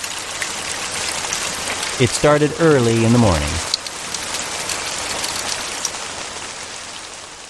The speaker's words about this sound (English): All this trouble the day after Christmas is probably caused by the disastrous weather that has struck Summerfield. Not snow, not hail, not a tornado, but heavy, solid rain.